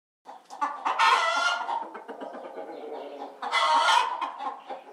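Domestic chickens clucking busily, with two loud, drawn-out crowing calls rising above the chatter, one early and one near the end. No one speaks.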